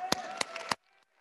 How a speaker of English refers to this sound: Oh, clap your hands, all ye people. Go ahead and clap.